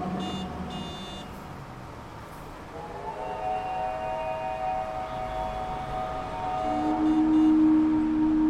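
Several sirens wail together in long, sustained tones that slowly rise and overlap, with a low droning horn swelling louder near the end. No one speaks.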